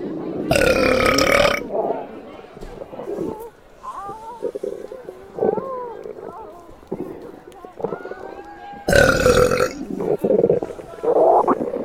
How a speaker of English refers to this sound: That one felt really good. I hope my burping doesn't bother you, because there's plenty more where that came from.